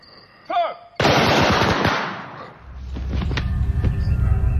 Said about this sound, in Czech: Tělo bývalého premiéra zasypalo obrovské krupobití kulek. Po popravě jsme pozbírali 0,5 kila nábojů, řekl policejní komisař.